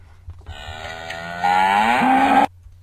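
A single long, loud cow moo, holding a steady droning pitch for about two seconds, swelling louder partway through and then cutting off abruptly.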